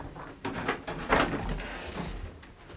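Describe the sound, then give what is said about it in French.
A door in a house is pushed open, with a few short scraping knocks followed by a louder rattling swing, then a quiet low rumble afterward. “Une porte qui va à la chambre ou n'importe.”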